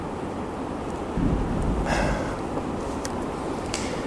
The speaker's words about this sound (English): So, we can leave now since it's raining hard.